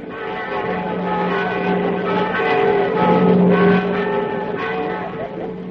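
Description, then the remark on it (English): Church bells ring out loudly and continuously, their overlapping tones blending into a dense, sustained peal that holds steady for several seconds without pause. “Don't fail to ring the bells to let me know all is well.”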